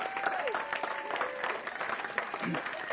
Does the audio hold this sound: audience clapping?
yes